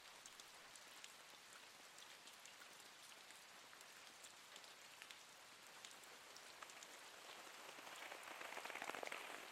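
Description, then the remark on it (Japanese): Steady rain falls in a dense, even patter of countless drops, with sharper splashes scattered throughout, growing slightly louder and fuller toward the end. No voices are present. “雨の音ってちゃんと聞いたことある？あの音って気持ちいいよね。”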